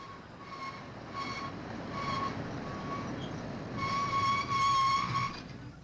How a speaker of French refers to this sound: Malheureusement, comme ils le craignaient tous, le train, pourtant parti sur une belle lancée sans arrêt jusqu'à Saint-Pancras, freina brusquement jusqu'à s'arrêter en plein No Man's Land, en plein sur un haut pont transversant un abîme abrupt.